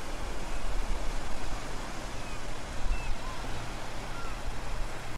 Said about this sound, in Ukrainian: А шум моря – то моя мантра, тепер складно дивитись на гори в кіно.